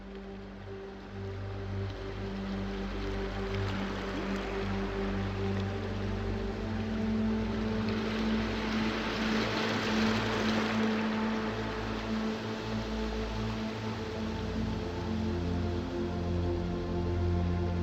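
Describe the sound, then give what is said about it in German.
A steady, soft wash of ocean water that swells slightly midway, with a constant low droning hum running underneath and no voices. “Das leise Rauschen des Meeres wiegt dich in die Tiefen der Entspannung.”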